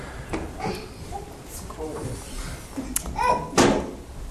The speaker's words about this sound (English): Can you guys open the windows a little bit and open the back door?